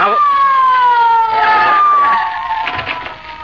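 A police car siren wails loudly and steadily, its pitch sliding slowly downward over a few seconds before the sound eases off slightly at the end.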